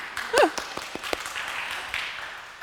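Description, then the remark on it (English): An audience at Emmanuel church on Kickoff Sunday breaks into steady, dense applause, with many hands clapping at once and a short high-pitched whoop rising early on. No one speaks over it. “Kickoff Sunday is finally here. You can applaud.”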